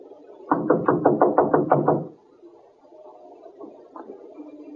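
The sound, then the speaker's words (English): A rapid, evenly spaced run of about eight loud knocks on a door by police officers, lasting under two seconds, followed by a quiet stretch with faint background noise. “Knock again.”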